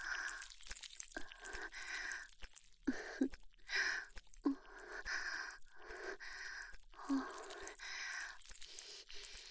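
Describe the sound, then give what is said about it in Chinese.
A woman pants heavily, with quick, breathy, partly voiced breaths and gasps repeating roughly once a second, and no other sounds. “女喘息的声音很性感，我来吗？”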